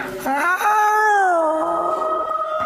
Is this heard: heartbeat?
no